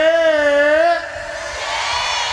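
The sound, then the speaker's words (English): A festival crowd of women at Untold Festival shouts a long, loud, high-pitched "yeah" together for about a second, then it dissolves into a wash of crowd noise and cheering. “Left side, all the ladies in the place say”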